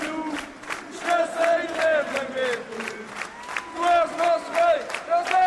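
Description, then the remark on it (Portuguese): Hundreds of people clap in farewell at Eusébio's burial in Lumiar cemetery, Lisbon, around 18:30 in heavy rain, steady applause while many voices call out and cheer over it, a dense, sustained wash of hands and shouting at moderate loudness. “Palmas de despedida, lágrimas de tristeza, foram várias as manifestações de pesar e de homenagem ao Eusébio,”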